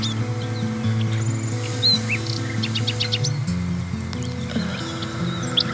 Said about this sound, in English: For those who want to continue, take a moment and listen closely for the sound of the birds. All of those other sounds are still there. I want you to move through those other sounds and cast your attention to the sound of the birds.